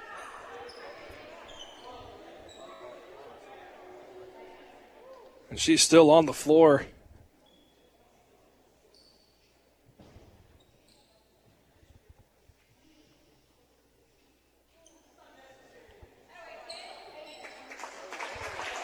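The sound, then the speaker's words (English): Crowd noise at a basketball game at the start, then a loud brief outburst. After a quiet stretch, the crowd gives a standing ovation, broad, steady applause that swells toward the end, as a player who was fouled on a layup gets back to her feet. “A standing ovation, a round of applause as she gets to her feet.”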